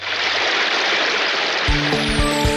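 A steady, loud rush of wastewater pours continuously, broad and hissing, into large basins at a water treatment and reuse plant that receive wastewater from the Tarragona and Vila-seca treatment plants; near the end a low mechanical hum with rhythmic thumps joins in.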